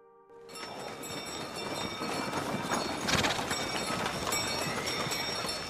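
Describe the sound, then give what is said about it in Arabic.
Horse hooves clip-clop steadily at a brisk, rhythmic pace, close and fairly loud, with a rattling, rumbling texture like a cart rolling along underneath. “لقد كان طريقنا طويل. هيا هيا أيها الحصان، هيا.”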